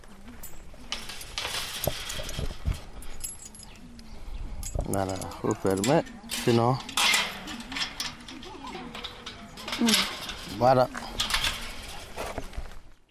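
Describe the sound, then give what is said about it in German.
A bunch of keys jangles and clinks in irregular bursts while a lock is worked to lock up a forest on leaving it in Burkina Faso, with voices talking intermittently over the metallic rattling. “Wir verlassen den Wald und schließen ihn ab.”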